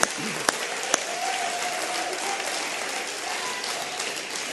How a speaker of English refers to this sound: Those of you that were part, yeah, come on, guys. Everybody that was acting, come on, give them a great big hand clap.